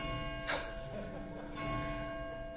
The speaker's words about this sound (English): Ask not for whom the bell tolls. It tolls for thee.